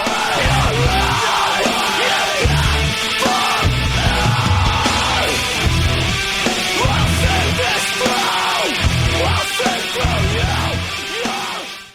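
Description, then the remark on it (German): A screamo song blasts at full volume, harsh screamed vocals over dense distorted guitars and pounding drums, steady and relentless for the whole stretch. “Okay, ist auf jeden Fall Screamo.”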